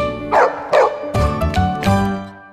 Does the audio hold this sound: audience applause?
no